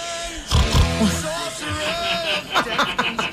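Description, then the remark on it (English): A person makes a loud pig-like snort, a short rough nasal burst, followed by chuckling and lively voices talking and laughing. “Were you going to snort? Yes. Can you do it anyway?”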